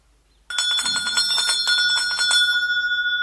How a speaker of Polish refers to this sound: jak poproszę jeszcze o mały dzwoneczek, to opowiem o czym już na pewno wszyscy dobrze wiedzą, ale może nie do końca.